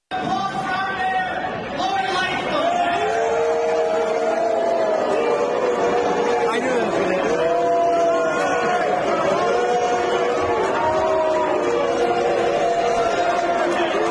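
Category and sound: crowd, crowd booing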